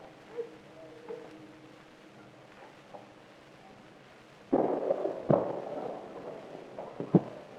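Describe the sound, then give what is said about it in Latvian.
Three booming salute shots ring out at uneven intervals, echoing, each followed by a lingering rumble over a low outdoor hum, as the President of Latvia unveils the Freedom Monument. “Krīsts deg, skan uz alūks šāvienu.”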